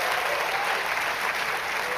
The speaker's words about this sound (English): In fact, as a congregation, can we just give a really big cheer for the Southeast campus right now? So you can hear.